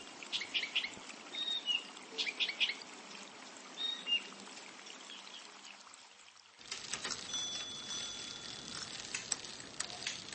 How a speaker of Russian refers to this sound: На мгновение стало тихо. А потом он услышал, как совсем рядом журчит ручей. Где-то высоко защелкал скворец.